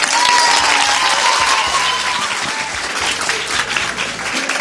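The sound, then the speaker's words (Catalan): At the final of a radio contest between schools, a crowd applauds the Institut Mediterrània loudly and steadily, a dense wash of clapping that holds strong for several seconds and eases only slightly toward the end, with faint voices mixed into the noise. “Va, un fort aplaudiment també per l'Institut Mediterrània.”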